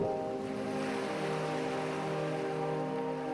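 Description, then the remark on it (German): A soft, steady wash of ocean surf at night that never rises or falls, layered over a low, even humming drone. No voices are heard. “Das leichte Rauschen der Weltmeere weht uns aus jeder Richtung entgegen.”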